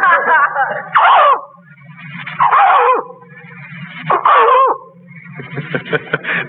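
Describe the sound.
A man, an animal impersonator, imitates a dog with his voice, giving a series of loud, rough barks with yelping, whimpering inflections, repeated in about four bursts with brief growly pauses between.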